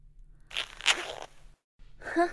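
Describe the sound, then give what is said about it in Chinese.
A zipper on a garment rasps open in a quick, gritty pull lasting under a second. After a short silence, a second rustling burst follows, with an airy, voice-like tone. “拉开拉链的一瞬间，奶子几乎是弹出来的。”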